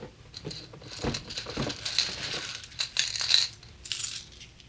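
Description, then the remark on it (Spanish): Gold coins being taken from a chest clink and jingle as they are scooped and handled, a run of irregular metallic chinks and rattles with bright ringing taps, no voices. “Pero, ¿tan pocas monedas te bastan?”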